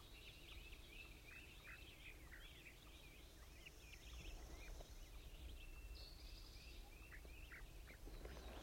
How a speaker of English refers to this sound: Actually, I believe it's the wild bird.